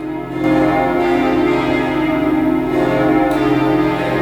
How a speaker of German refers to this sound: Mit diesem Original-Glockengeläut der Berliner Gedächtniskirche erinnerte der Rostocker Schaustellerverband gestern an den unfassbaren Terroranschlag in Berlin vor einem Jahr.